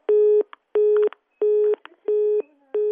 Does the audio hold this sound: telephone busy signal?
yes